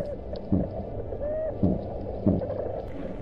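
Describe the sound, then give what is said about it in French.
Three short, low, gurgling bursts of a small porcupine fish burping, picked up by underwater microphones, sound at uneven intervals over a steady underwater hiss, with a faint thin whistle drifting in between. “Ou le rot du petit poisson porc-épic.”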